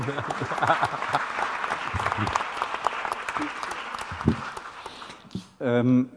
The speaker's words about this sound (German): Vielleicht einen kurzen Beifall.